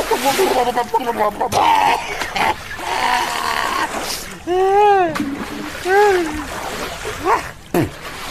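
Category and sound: nature, water splashing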